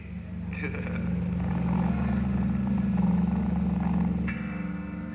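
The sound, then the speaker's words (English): A low, droning airplane engine rumbles overhead, swelling louder through the middle and easing off near the end, with steady humming tones running underneath the roar. “Hope the plane don't crash.”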